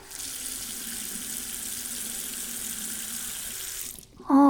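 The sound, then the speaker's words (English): Water runs from a tap into a drinking bowl in a steady rushing stream for about four seconds, then shuts off abruptly, followed by a brief, loud high-pitched squeak. “Let's get you some water and some food.”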